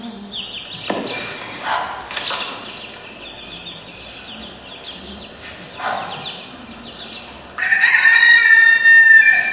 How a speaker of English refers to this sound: But here's a hen, and there's a threat, and there are the chicks. So the hen is being very protective, and you see what happens to the chicks.